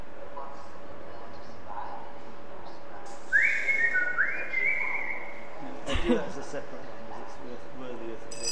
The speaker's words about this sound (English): Can you do the whistling one before we go? I love that.